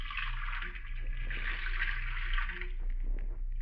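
Water runs steadily from a faucet at a sink into a container, filling it, a continuous splashing rush with a low hum underneath, lasting a few seconds without pause.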